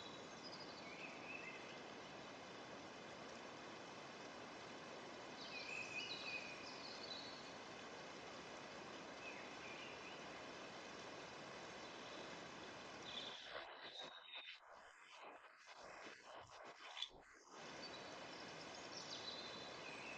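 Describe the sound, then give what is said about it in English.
Water flows gently in a forest in a steady, continuous rush that fills the whole clip, with a few faint bird chirps in the background and a brief flickering dip near the end. “The sound of gently flowing water.”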